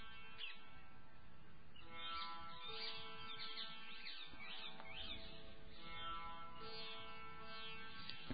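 Many birds chirp and sing together in a continuous, busy chorus, with overlapping high trills and calls from several birds, and no one talking.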